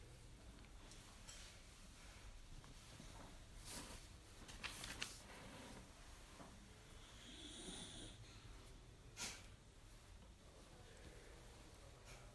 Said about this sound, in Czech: To je špinka. Chrápe trochu, že?